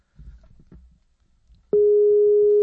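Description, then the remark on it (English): A Skype outgoing call ringing tone starts abruptly after a second or so of faint low rumbling, then holds as a loud, steady electronic tone until the end. “I got it. It's ringing now.”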